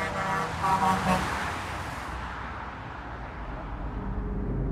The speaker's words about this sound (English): how fun it was to get honks and waves from the cars racing by below.